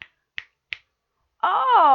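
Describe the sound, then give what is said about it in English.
Three crisp finger snaps ring out in a quick, even rhythm, each short and sharp. After a brief pause, a sustained voice begins and continues to the end. “Snap!”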